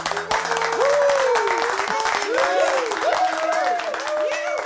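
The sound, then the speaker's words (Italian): A small group of musicians claps steadily in a recording studio at the end of a recording, with loud whistles and excited whoops rising and falling over the continuous applause throughout. “Gli applausi se li sono fatti gli stessi musicisti in studio al termine della registrazione”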